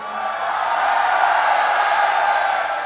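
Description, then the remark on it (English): A concert audience cheers in a steady, roaring wash of voices that holds at an even loudness for about three seconds, with no single voice standing out. “That was an attempt at a cheap cheer.”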